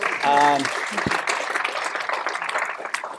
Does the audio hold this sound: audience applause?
yes